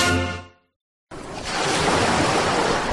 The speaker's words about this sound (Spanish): Las olas del mar siempre vuelven.